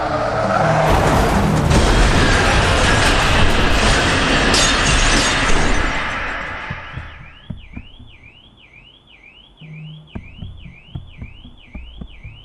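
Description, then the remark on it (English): A loud car crash, as another car smashes into the driver's car, with shattering glass fills the first several seconds, then a warbling car alarm wails steadily while scattered bits of debris tinkle and clatter. “I'm dazed, hardly conscious as the figure from the other car that's just smashed into me approaches.”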